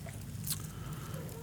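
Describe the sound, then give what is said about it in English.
Soft papery rustles of Bible pages being turned to Hebrews chapter 1, one brighter flick near the middle and fainter ones after it, over a low steady hum and a faint murmur of voices. “I can still hear pages turning, so I'll give you a second.”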